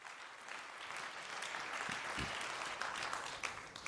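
Sustained audience applause, a dense, even wash of many hands clapping steadily for the whole stretch with no voices over it.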